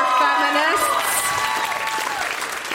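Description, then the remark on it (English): A short burst of audience applause, moderately loud and steady, with scattered voices and chatter mixed in as the clapping continues. “Wow, you guys, by the way, that was the worst round of applause.”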